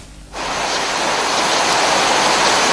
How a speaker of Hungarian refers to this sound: Óriási erővel hömpölyög a víz a falvakban Románia északi részén. A kiöntött folyók szinte semmit nem hagynak épségben.